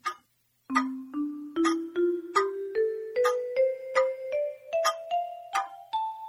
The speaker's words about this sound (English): The clock struck five.